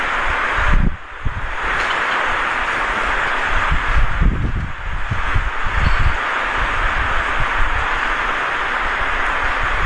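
A loud electric fan runs steadily, producing a constant broad whooshing hiss with a deep, uneven rumble and flutter underneath. No voices are heard.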